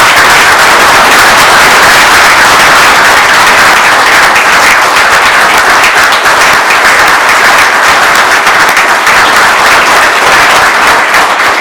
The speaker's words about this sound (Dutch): Maar mag ik u vanaf deze plek dan toch vragen, nu wij in deze samenstelling bij elkaar zijn, om een heel applaus, groot applaus voor de waarnemend burgemeester.